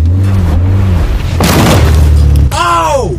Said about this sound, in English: Oh! Oh no, I hit the house.